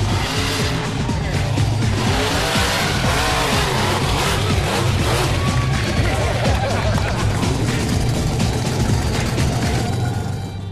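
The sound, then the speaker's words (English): The Bigfoot monster truck's engine roars continuously at full throttle as it is driven over cars and jumps, a deep throbbing rumble with rising and falling revs and some squealing, loud throughout, with voices faintly mixed in. “takes Bigfoot over the cars and really lets it rip on the jumps”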